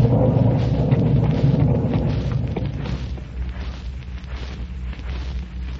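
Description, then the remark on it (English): A deep, rolling boom of thunder during a heavy rainstorm over a golf course rumbles loudly at first, then gradually fades into a lower, steady stormy rumble with some wind-like noise. No one speaks. “Got 16 holes in this storm.”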